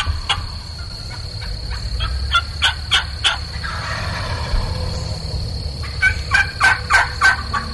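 Osceola wild turkeys gobbling during a turkey hunt, in two bursts of rapid, rattling notes, one early and one near the end, over a steady low rumble, with no talking.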